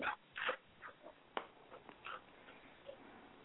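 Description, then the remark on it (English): A puppy named Pearl makes a series of short, soft whimpering sounds in uneven bursts, mixed with a few faint clicks and rustles, with no one talking. “Pearl, do not eat your mistress. She's a puppy.”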